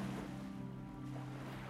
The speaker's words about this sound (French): Et le bruit des vagues va et vient dans votre cerveau.